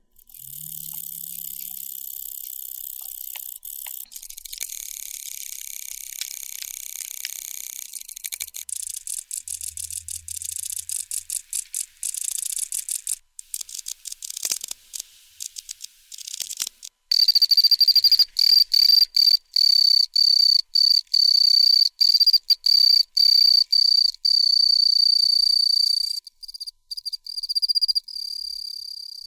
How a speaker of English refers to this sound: Yeah, that's a difference in tone, isn't it? Yeah, so the second set of sounds there are representative of the noise that the typical Pacific field cricket makes.